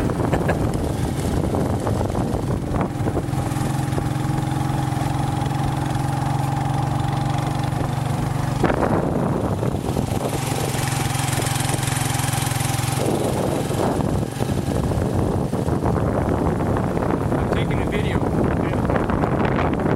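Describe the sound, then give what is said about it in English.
A borrowed motorcycle's engine drones steadily with shifting pitch while heavy wind buffets the microphone, a continuous roar of riding at speed along the hospital road towards Yali General Hospital. “So we're riding a motorcycle.”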